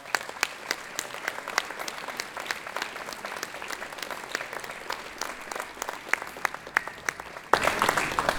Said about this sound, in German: Und ich würde Sie jetzt mal bitten, einen kleinen Applaus der Stadt Trier zu spenden.